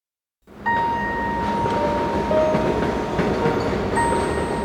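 An elevated J subway train in Queens, New York roars past about 10 feet from a window, a loud steady rumble with high metallic wheel squeals ringing over it, starting abruptly and filling the whole moment with no voices.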